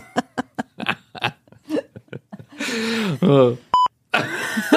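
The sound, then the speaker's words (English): A single short, sharp electronic smoke alarm beep rings out near the end, surrounded by bursts of vocal noises like grunts, laughter and a strained, wobbling voice. “The smoke alarm's going off in his head.”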